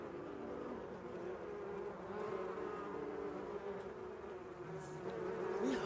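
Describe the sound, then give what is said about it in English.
A dense, steady drone of many bees buzzing, a continuous hum that swells slightly toward the end, with no talking. “Okay, Ma, the bees are back.”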